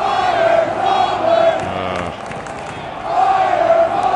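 A large stadium crowd boos loudly in a sustained, droning wave that dips briefly midway and then swells again, filling the space with a dense wall of voices.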